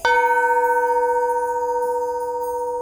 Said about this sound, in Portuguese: Um belo dia, um músico chegou em sua casa. Tocou a campainha, mas ninguém abriu.